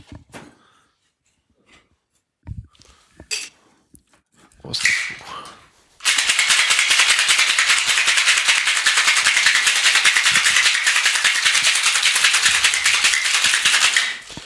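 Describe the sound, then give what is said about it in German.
A few scattered clinks and knocks of ice, then about eight seconds of steady, loud, rapid rattling as a cocktail shaker full of ice is shaken hard for a cocktail with Angostura bitters and orange bitters, stopping abruptly. “Ich schüttel das mal kurz.”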